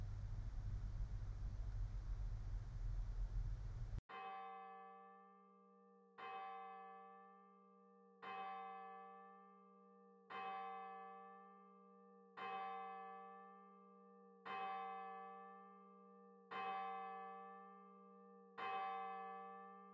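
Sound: bell ringing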